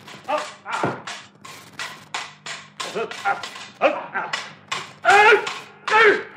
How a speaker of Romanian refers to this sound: Câine! Câine blestemat!